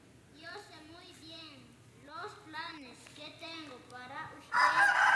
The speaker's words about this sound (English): There's also a rooster.